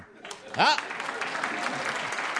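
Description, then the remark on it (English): A studio audience at a radio show recording breaks into steady applause that swells quickly and holds, with a single whooping cheer rising out of the crowd near the start. “How many of you get a Barney Google reference? Applaud now, you're on radio.”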